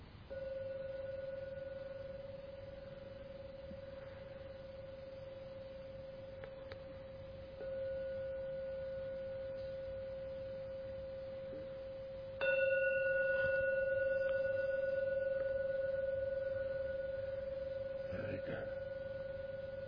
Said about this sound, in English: And I will now ring the gong 3 times to end the meditation. Please listen to every sound from the gong. Only when the last one fades, come out from the meditation.